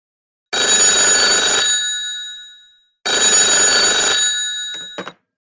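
A telephone bell rings twice in long, loud, clattering bursts, each trailing off with a ringing decay, the second ending in a few short clicks as if the receiver is picked up.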